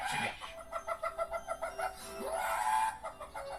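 A chicken clucks in a quick, steady series of about eight notes, then a rooster lets out a short, rising crow, fairly loud with no one talking.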